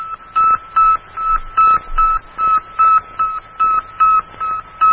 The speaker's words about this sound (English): This is how the signals from the satellite were picked up on its first journey across Britain. Ooh. Beep, beep, beep, beep. Almost sounds evil. An evil Russian satellite.